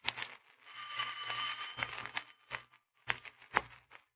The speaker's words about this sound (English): Here it is, Markheim. The dealer's house. Ring the bell. Don't hesitate, Markheim. Ring it.